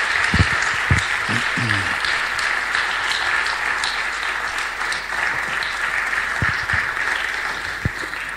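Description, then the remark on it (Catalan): Sustained audience applause as Jordi Milán comes up to join the hosts: a dense, steady wash of many hands clapping at even loudness for several seconds, with a few sharper individual claps and faint voices mixed in. “Jordi, un aplaudiment.”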